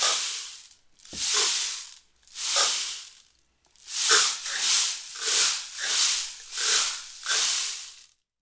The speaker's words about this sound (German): Ein Lied auf dem Regenmacher, aha.